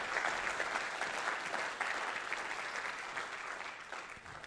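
A steady round of applause from a crowd, many hands clapping in a dense, even wash of sound that holds strong for several seconds without letting up.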